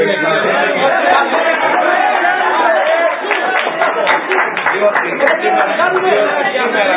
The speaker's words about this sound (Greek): Από ό,τι κατάλαβα, αντί να δείτε, είχατε ορισμένα αιτήματα να ενημερωθείτε, ήρθατε να χτυπάτε παλαμάκια και να μην ξέρετε γιατί χτυπάτε παλαμάκια.